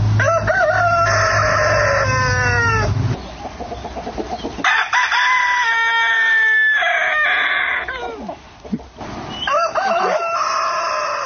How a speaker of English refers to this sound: The sound of crowing roosters, is this what you heard? Correct. I mean, was it as loud and upsetting and annoying as that? Absolutely.